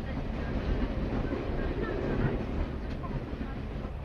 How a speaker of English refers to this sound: Well, the train journey is coming near an end now, with the slowing down as we approach Maynooth, past the wall of St. Patrick's College, and around the corner with the canal into Maynooth Harbour.